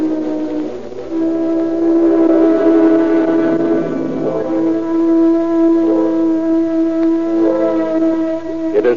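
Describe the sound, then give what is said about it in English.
A cable car clanks and rumbles in the distance in San Francisco on a foggy morning, with a steady droning, horn-like tone running underneath for the whole stretch. No voices are heard. “Only the distant clank of a cable car ruffles the tomb-like silence of the city.”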